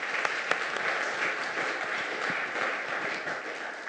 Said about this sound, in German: Lass uns den beiden mal einen Applaus geben.